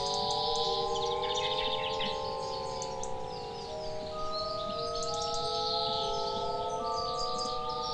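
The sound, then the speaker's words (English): Rapid, high-pitched bird chirps and tweets come in bursts throughout, layered over steady, sustained humming tones and a soft background wash. No one speaks. “Seeing the approaching car scares the bird anyway. He flies a few feet away and lands on my couch.”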